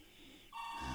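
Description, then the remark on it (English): A telephone starts ringing partway through, a steady electronic tone that swells slightly and keeps going to the end, heard fairly quietly with no one talking. “And there's the phone call.”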